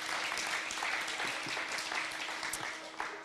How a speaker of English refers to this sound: Why don't you give them a great round of applause? What amazing people.